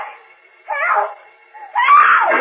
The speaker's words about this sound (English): Suddenly, he hears Lois's faint, far-off scream for help.